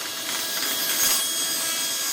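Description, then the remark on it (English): Table saws run by students cutting through wood in the workrooms of the California College of the Arts in San Francisco make a steady, unbroken hissing whine, bright and fairly loud throughout, with a slight swell in the middle and no voices. “Art projects are everywhere, and sawdust fills the air as students crank up the table saws.”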